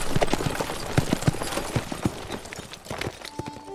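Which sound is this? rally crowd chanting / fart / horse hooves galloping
horse hooves galloping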